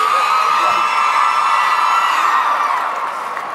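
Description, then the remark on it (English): A large crowd at an FFA event cheers and whoops loudly for the new state officer team in a dense, sustained roar of shouting and applause-like noise that holds steady for several seconds before easing off slightly at the end. “Let's hear it for this new state officer team.”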